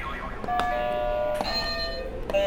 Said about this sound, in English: Do you want to hit all the buzzers you want?